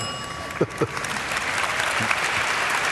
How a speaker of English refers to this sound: Remember, well, who was that hand for? No, they're not. They're applauding for Bill. They're applauding.